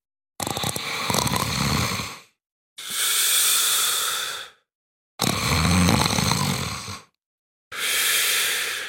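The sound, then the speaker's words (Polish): Drawn-out snoring from a hunched woman in black rocking in a chair by a window, her head wrapped in a thick veil, fairly loud: four long breaths of about two seconds each, rasping inhales alternating with airy, hissing exhales, separated by short pauses. No one speaks. “Na bujanym fotelu pod oknem kiwała się przygarbiona kobieta w czerni, z głową okutaną gęstym welonem, spod którego wydobywało się przeciągłe chrapanie.”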